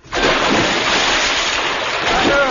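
A bed is lifted and splashes heavily into a river, where it floats, followed by a loud, steady rush of churning water that continues without letting up.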